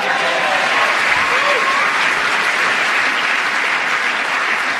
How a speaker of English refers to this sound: Well, those instant rounds of applause there.